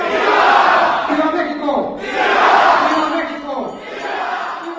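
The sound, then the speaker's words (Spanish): On a Tuesday night at the Hotel Hilton in Prague, a crowd of the Mexican community shouts the cry of Mexican independence, "¡Viva!", for the 199th anniversary, in loud, rising waves: several swelling bursts of many voices yelling together in unison. “El grito de independencia resonó fuerte en el Hotel Hilton de Praga, con la presencia de gran parte de la comunidad mexicana residente en el país y representaciones diplomáticas de Latinoamérica y España.”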